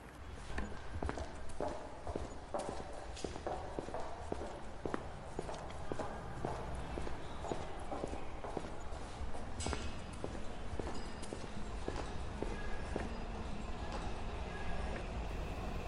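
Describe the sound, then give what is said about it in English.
Steady footsteps with a wet, slapping quality descend slippery stairs down to a subway station at an even pace in early evening, over a constant low rumble of a packed underground station with faint voices. “We slosh our way along with our heads down and our hands stuffed into our pockets”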